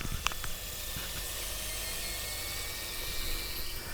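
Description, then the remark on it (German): An air fryer keeps sizzling after being switched off, its motor stopped and the inside still hot: a steady, faint crackling hiss with small scattered pops and a low rumble beneath, with no voices. “Wir hören es noch ein bisschen nachbrutzeln.”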